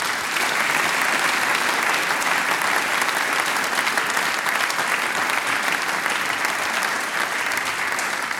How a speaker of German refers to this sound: Jetzt habt ihr auch einen Applaus verdient, gell?